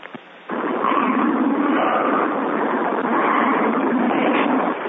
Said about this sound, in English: Can somebody mute? Whoever's riding the subway, please mute. Whatever that is.